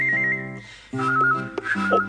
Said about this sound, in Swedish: Hör, nu börjar han vissla hörru. Så konstigt han visslar.